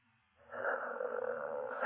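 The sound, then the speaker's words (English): A person imitates a soft, breathy dog bark, drawn out into a single muffled huff-like sound lasting over a second at moderate volume, mimicking the dog Ollie quietly asking to be taken out. “But he's not barking loud, which he has a loud bark. He's sort of asking, please take me out.”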